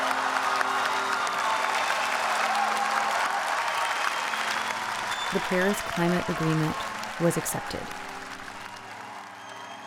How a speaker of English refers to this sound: I was there. I was in the room when that happened. What was it like? Well, we are all on our feet, you know, clapping and like crazy, because it was a huge achievement.